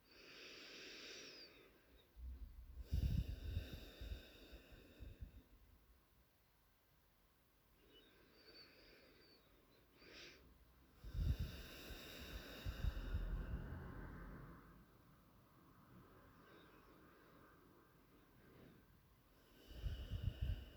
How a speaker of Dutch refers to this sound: Doe het nog 3 keer. 3 keer in door je neus en uit door je neus.